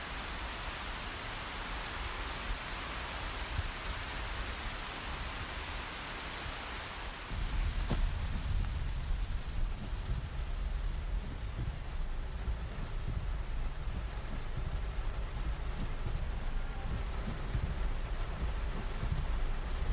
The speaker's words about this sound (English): And the rain scatters across my window and it distorts the light coming through. I look across the way to see the apartments lit across from me. Everyone's still awake. And maybe they too are watching the rain.